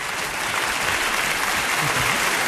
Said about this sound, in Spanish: De momento, yo voy a dar un aplauso maravilloso que me apetece, que luego no me dejan nuestros invitados a la tertulia.